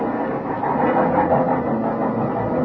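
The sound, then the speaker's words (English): A train bound for Chicago rumbles steadily, a dense, continuous mechanical roar with a hint of squealing, as it rolls slowly into a station at night. No voices. “When the train finally pulled in, they walked me down to my car and stood there with me in the vestibule until the train was ready to pull out.”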